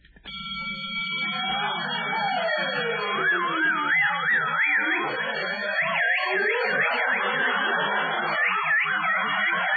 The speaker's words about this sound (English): I forgot to turn off the alarm.